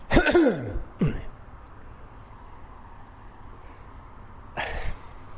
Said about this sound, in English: Just clear my throat.